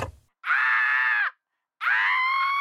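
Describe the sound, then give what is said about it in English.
Two loud, sustained electronic screams from a Screaming Skull 3000 Halloween skull decoration in a studio decorated for Halloween, each about a second long with a pause between, the second rising sharply in pitch. “Studio G looks great. It's all decorated. I got my Screaming Skull 3000.”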